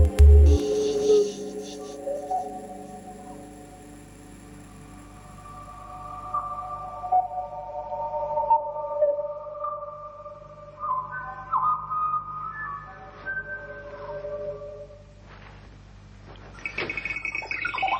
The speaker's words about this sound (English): We decided to use natural sounds as a starting point to characterize these birds who will be in the dance. And one of the things I had to do was to find some sound for huyas. Huyas, of course, are extinct. But I tried to imagine something like this.